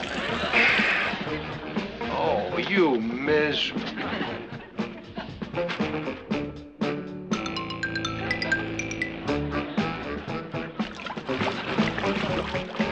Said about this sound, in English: Now, will you get out of that bathtub? I ran that water for myself.